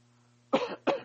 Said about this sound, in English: I clear my throat here. Excuse me.